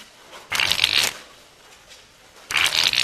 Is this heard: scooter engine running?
no